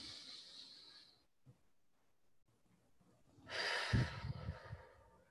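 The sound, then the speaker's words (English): Soft, airy breathing sounds of a group taking three deep breaths together: a long breath at the start, a quiet pause, then a louder, fuller exhale rushing out near the end. “So if we could just all do those three deep breaths together, one for ourselves to focus and center.”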